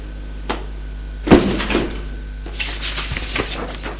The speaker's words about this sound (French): Les jeunes ouvrent la porte et entrent.